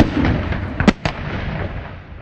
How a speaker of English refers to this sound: Night and day, the wheat fields of central Iraq echo with volley after volley of U.S. artillery raining down on still active Iraqi units.